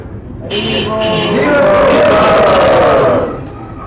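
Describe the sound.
A crowd of people roars together, imitating lions: one loud, sustained group bellow that swells over about three seconds, then fades out.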